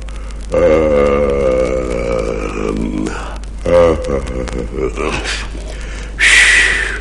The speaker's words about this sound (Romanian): A doua zi de dimineață, când uriașul se trezi, căscă odată și...